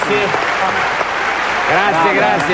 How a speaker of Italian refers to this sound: Grazie, un bel applauso.